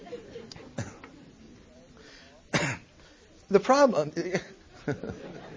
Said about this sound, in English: went over to the synagogue pulpit and rolled another one through the paper on the floor, gagged and coughed.